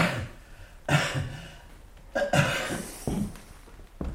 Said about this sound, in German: Tief atmen. So, ja. Husten.